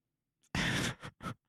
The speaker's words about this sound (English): Yeah, I was yawning. Wait, what was the cracking sound? Oh, that was my jaw.